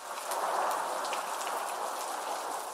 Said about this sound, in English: Now, today, we talk about something found everywhere in the world. Rain.